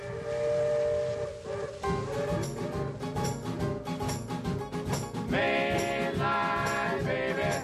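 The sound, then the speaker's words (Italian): An Indian Pacific passenger train rolls through South Australia toward Adelaide with a steady, loud mechanical rumble while long, droning whistle tones sound over it, growing brighter and more insistent toward the end. “Andiamo a passeggio sul treno e incontriamo il capotreno dell'Indian Pacific”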